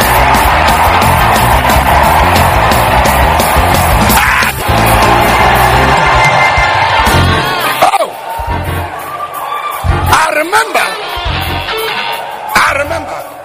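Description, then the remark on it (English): A loud crowd shouts and cheers continuously in response to a call to shout, with overlapping yells and whoops over music, the roar easing slightly after about eight seconds as individual excited voices rise and fall. “Come on, shout.”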